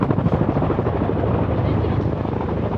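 A helicopter carrying three people rescued from a lifeboat flies to Huddinge hospital, its rotor thumping in a fast, steady chop over a loud, continuous engine roar that holds at an even level throughout.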